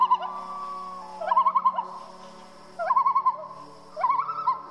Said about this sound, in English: When we pretended we went camping, we roasted a marshmallow over a bunch of tea lights in our living room, and I played Sounds of the Loons in the Adirondacks on my phone.